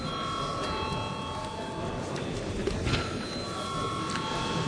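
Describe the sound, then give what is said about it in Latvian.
An electric parliament chamber bell in the Latvian parliament, rung after debate closes to call a vote on budget proposals, rings without pause for the whole stretch: a steady, shrill metallic tone with a rattling buzz beneath it, holding an even loudness from start to finish. “Vai komisijas vārdā, kas piebilstams, nav piebilstams, lūdzu zvanu.”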